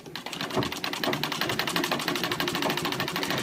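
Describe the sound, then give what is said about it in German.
A sewing machine runs steadily, its needle clattering in a fast, even rhythm of mechanical ticks over a low motor hum, with no voices. “Anfangs noch händisch, später mit Hilfe der Nähmaschine, der eine elementare Bedeutung in der Erfolgsgeschichte der seriellen Fertigung von Kleidung zukommt.”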